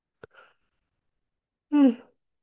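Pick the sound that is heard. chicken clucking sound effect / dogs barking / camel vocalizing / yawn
yawn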